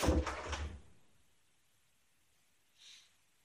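A door is pushed shut with a broad, rumbling thud in the first second, followed by quiet and a brief soft hiss near the end. No one speaks.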